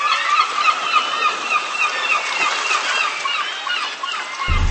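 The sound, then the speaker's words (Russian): A large flock of gulls calls nonstop as it rushes across a river in Paris after an empty barge turning into the right arm of the river, dense overlapping squawks and cries filling the air at steady loudness, with a faint wash of water beneath and a brief low thump at the end. “Огромная стая чаек, которая, увидев путую баржу, поворачивающую в правый рукав стены, бросилась через реку.”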